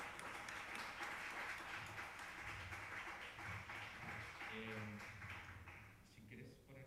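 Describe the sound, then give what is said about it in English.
A festival audience applauds steadily for several seconds as director Luca Guadagnino is introduced to present the series We Are Who We Are, a dense, loud crackle of many hands clapping, with a few voices briefly audible beneath it as the applause begins to thin out. “Yes, a round of applause, why not?”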